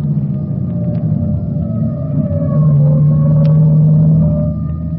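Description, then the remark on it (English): A fire truck siren from the salvage squad wails steadily over a low engine rumble, its tone sliding slowly in pitch and swelling louder midway before easing off. No one speaks. “That siren is clearing the way for it.”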